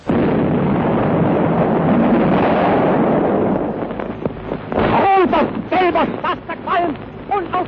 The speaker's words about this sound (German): Das Donnern der schweren Geschütze von der Schleswig-Holstein. Immer wieder die kurzen Einschläge der Granaten. Jetzt wieder eine Salve hoch hereingeknallt.